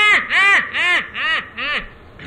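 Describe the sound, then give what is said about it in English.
A person imitates a mallard (tame) duck's quacking call, as used in hunting: about five loud, nasal quacks in a quick, steady series, with the last one fading off. “mallard duck, or you call it a tame duck, either one.”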